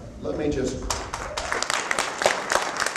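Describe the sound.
At a 2002 public meeting in Castledale, Utah, where residents confronted Governor Mike Leavitt over a dangerous highway, an audience breaks into applause for an insurance agent, a dense, steady patter of many hands clapping that follows a brief trace of voice and continues at a fairly loud level throughout.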